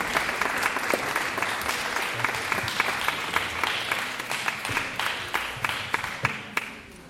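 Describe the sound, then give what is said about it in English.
An audience applauds Norman Solomon as he is invited up to speak, steadily for several seconds, a dense wash of many hands clapping at moderate volume, thinning toward the end into a few louder, scattered claps before fading. “Give him a great round of applause.”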